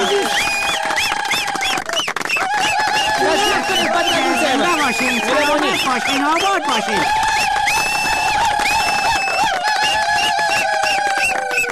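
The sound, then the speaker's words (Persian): An audience applauding loudly and continuously as the next performer is introduced, mixed with cheering, shouting voices and high sustained whistles, the clapping a dense wash under the crowd noise for the whole stretch. “یک چک چک کنید. تشویق کنید.”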